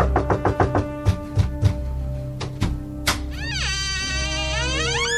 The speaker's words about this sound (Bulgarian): Тишината обвила къщата ни като пелена, внезапно бе разкъсана от викове и резки команди. Някой забърбани по външната врата.